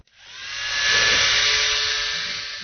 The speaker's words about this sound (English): do you think you could show me how your shaver works? ...is his electric shaver.